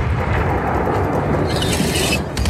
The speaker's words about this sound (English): But now, of course, everyone's been alerted to the gunfire.